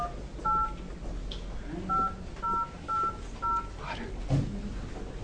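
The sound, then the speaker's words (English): Five short, clear telephone keypad tones beep in quick succession as someone dials a phone during an Oregon House Health Care Committee hearing, each a steady dual-pitched chirp, over a low hum of room noise with no talking. “I need to get somebody on the phone.”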